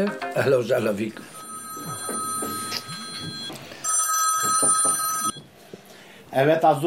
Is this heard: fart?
no